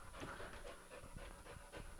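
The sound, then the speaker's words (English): A dog pants steadily, quick rhythmic breaths repeating over about two seconds with no talking. “I don't know if you guys can hear, but my dog is back.”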